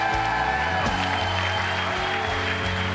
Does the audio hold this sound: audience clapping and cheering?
yes